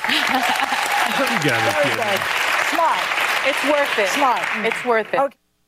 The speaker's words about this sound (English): Clap if you had your third booster.